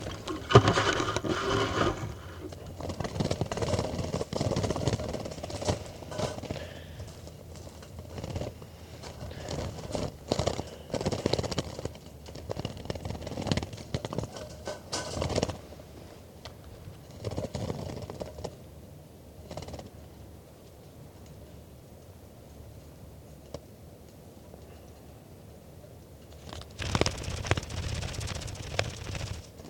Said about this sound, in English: Set recording bird 411 being handled.